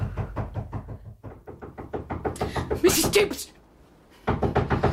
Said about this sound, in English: Someone knocking on your bedroom door.